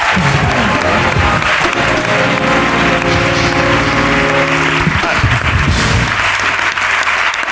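Steady, dense applause from a group claps on without pause for several seconds, loud and even throughout, with a low sustained tone running underneath for much of it.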